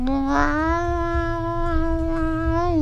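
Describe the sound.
A person's voice imitates a cat meowing, drawing out one long, steady, nasal cry that holds for nearly three seconds, fairly loud, with a faint low hum behind it.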